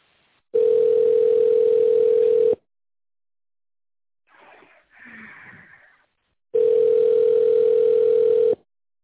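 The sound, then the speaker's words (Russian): A telephone ringback tone while waiting for an operator on a hotline for a neurofibromatosis laboratory diagnostics programme: two long, steady, low-pitched buzzing beeps, each about two seconds, separated by a pause with a brief faint rustle in between. “Вы позвонили на горячую линию программы лабораторной диагностики нейрофиброматоза.”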